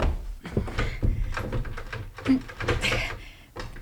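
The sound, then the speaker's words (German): A stuck door is yanked and rattled over and over, with an irregular run of knocks, clunks and scraping jolts lasting a few seconds. “Die Tür klemmt.”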